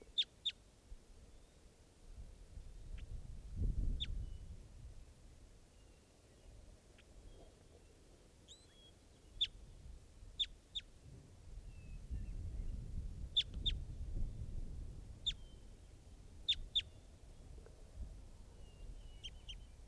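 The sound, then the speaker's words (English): An adult male type 2 bird, foraging, gives short, high, sharp call notes, about a dozen at irregular intervals, some in quick pairs, over a low rumbling background with no talking. “Bird's now foraging.”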